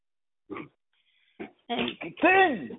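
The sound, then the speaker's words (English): A dog gives a few short, sharp vocal bursts separated by pauses, then a longer whining, rising-and-falling yowl at the end. “Sorry, I'm fighting with my dog.”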